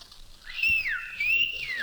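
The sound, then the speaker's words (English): A person whistles a two-part call up to a window, each phrase a clear tone that holds steady and then slides downward, repeated twice in quick succession with no talking. “I whistled up to the window.”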